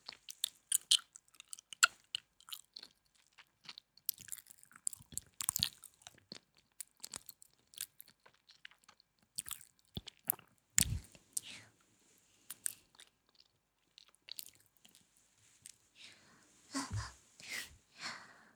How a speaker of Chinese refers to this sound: 好凉啊，冰块吃起来的感觉真的好舒服呀。